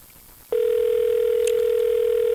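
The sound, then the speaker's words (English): A telephone ringback tone on an outgoing call: a steady electronic hum starts after a brief pause and holds unbroken and loud to the end, with no one speaking. “Well, we're getting the ringing again.”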